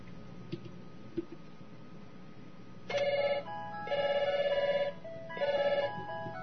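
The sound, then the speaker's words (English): A synthetic Skype outgoing call ringing tone sounds in three repeated bursts, a short one followed by two longer warbling tones, clear, after a couple of faint clicks against a low background hum, as a conference host calls a participant. “I'm going to invite Daryl.”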